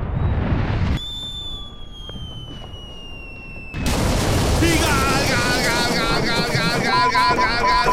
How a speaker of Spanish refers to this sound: ¡Galeón inglés derribado por un certero cañonazo español! ¡Vaya cañonazo! En la repetición podemos observar cómo la bala ha hecho una folla seca que ha sorprendido a los ingleses.